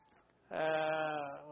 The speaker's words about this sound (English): Now he is bringing home the cow. This is the cow.